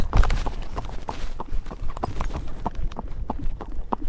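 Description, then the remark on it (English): Steady clip-clop of a ridden horse's hooves at a brisk, even trotting rhythm, moderately loud, with faint rustling and wind noise underneath and no talking. “Ooh, he's very eager to run this horse.”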